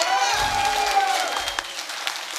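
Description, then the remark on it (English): An audience applauds for a video with a dense, steady wash of overlapping claps. A thin, high tone rings briefly near the start, and a couple of low thumps sound beneath. “Can we get an applause from the audience for the video?”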